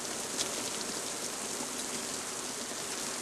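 Steady, heavy rain falls on a muddy town street, a dense continuous hiss of countless drops with no pauses or voices throughout.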